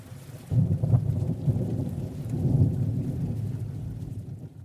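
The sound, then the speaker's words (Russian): Heavy rain pours steadily while a deep roll of thunder rumbles through, low and loud, swelling after the first half-second and lingering to the end. No voices. “Однажды на улице начался сильный дождь.”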